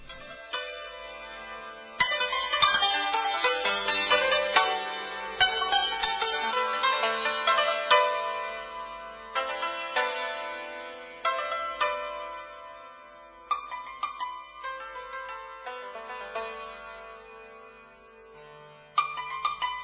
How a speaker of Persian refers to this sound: الان موسیقی میشنویم